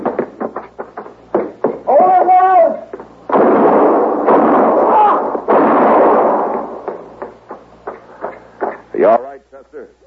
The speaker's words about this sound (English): You were close, but he missed me. Well, you two didn't miss him. I don't know which one of you fired first, but either bullet would have done it.